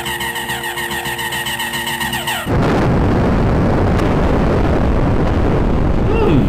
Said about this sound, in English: Alright, Krantor, let's see how you like the sweet ozony taste of an ionic cannon broadside!